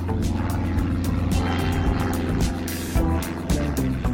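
A tiny propeller plane's engine drones loudly and steadily on a very short flight from Heathrow Airport in London, a dense mechanical hum with layered tones and a faint pulsing rattle, with no voices present.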